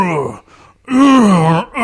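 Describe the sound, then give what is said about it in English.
A voice imitates a zombie, letting out drawn-out, wavering moans in two long groaning bursts separated by a short breathy pause, loud and sliding in pitch. “I want to have somebody make zombie noises, like zombie fuck noises.”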